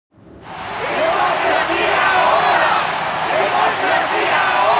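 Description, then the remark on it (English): A large crowd of protesters in Panama City shouts and roars together in a dense, continuous wall of many voices, rising quickly after a brief silence and staying loud throughout. “The crowd had started turning out by 8 o'clock, responding to the flyer circulated over several days.”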